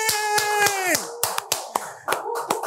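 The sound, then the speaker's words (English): Sharp, evenly spaced claps ring out, about ten in under three seconds, over a sustained tonal note that slides down in pitch and fades after the first second. “Ladies and gentlemen, people in the house, a round of applause for my brother,”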